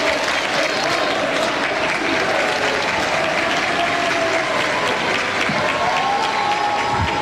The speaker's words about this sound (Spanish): Boric, amigo, el pueblo está contigo, lo que repiten, ¿no? Varias personas, ustedes las están viendo con varias banderas, aplausos, fotografías, hay niños también, bueno, son parte de los trabajadores acá del Palacio de la Moneda